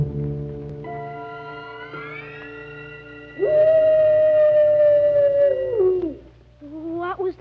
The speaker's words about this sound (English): That was merely the soul of a wolf passing by the Kurgatorium.